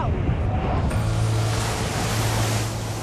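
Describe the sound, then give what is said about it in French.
Stormy ocean waves from a TV program on weather and life in extreme conditions surge in a continuous loud roar, with gusting wind buffeting the microphone and a steady low rumble underneath. “Voilà, c'est entièrement pour le bruit que je vous le propose. C'est spectaculaire. Donc, avis de tempête sur la 3 ce soir.”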